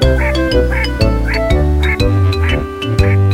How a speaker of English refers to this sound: And then she started quacking up the streets and down.